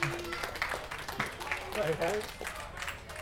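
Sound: audience applause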